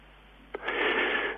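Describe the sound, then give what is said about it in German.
A single wave surges in and breaks on a beach with a rising, hissing rush that swells and holds, a soft wash of surf, with no voices and a slightly muffled, narrow tone. “Und hören Sie, wie sich die Wellen am Strand immer wieder brechen.”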